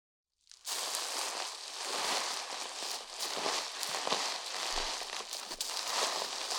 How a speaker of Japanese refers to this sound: それじゃ、シャンプーで髪を洗っていくね。泡が入っちゃうから、目は閉じててね。